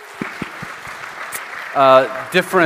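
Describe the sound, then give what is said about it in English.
Soft, scattered clapping from a church audience applauding church members invited up to talk about community, with a few sharper individual claps, followed by a voice or cheer rising over the applause near the end. “if you would give them a round of applause there, please.”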